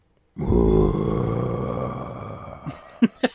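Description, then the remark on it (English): A voice imitates Godzilla's roar: one long, loud, gravelly bellow that slowly fades over about two seconds, then two short, sharp grunting breaths. “That's my Godzilla. And this roar.”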